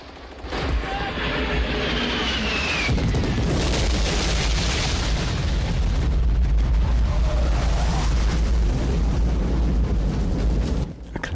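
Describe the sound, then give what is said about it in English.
A tight formation of four jet fighters roars over a jungle canopy with a falling whine, followed by a massive, sustained napalm explosion that engulfs the tree line in fire and smoke, rumbling deep and loud for several seconds before cutting off. “Fire and smoke engulfs the tree line in their wake.”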